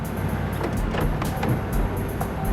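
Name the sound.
car arriving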